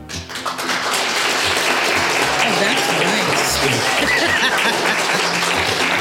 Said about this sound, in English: It is good to hear applause. My goodness, yeah.